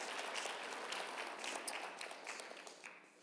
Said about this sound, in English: Clap for my wife.